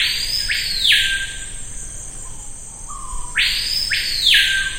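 screaming piha call

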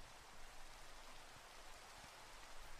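rain falling

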